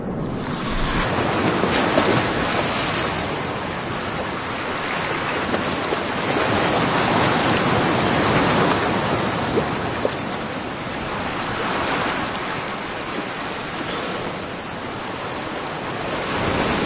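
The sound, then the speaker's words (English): Steady ocean surf of the incoming tide at Rain Island rolls in with a broad, hissing wash, swelling gently every few seconds as waves break. No voices, just continuous water noise with a touch of wind. “Turtles trapped in rock pools begin to refloat on the incoming tide.”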